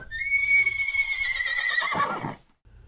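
A horse gives a loud, drawn-out whinny lasting about two seconds, its high quavering call sliding down into a breathy snort before falling silent, with faint low rumbling underneath.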